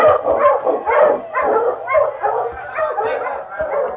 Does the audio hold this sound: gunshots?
no